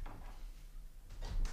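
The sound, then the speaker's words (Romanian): A door is opened, with a soft knock of the latch and a brief rattle followed by a fuller thump and scrape of wood as it swings, against a low background hum. “Da, îmi dați voie, domnule inspector, să mă duc să deschid.”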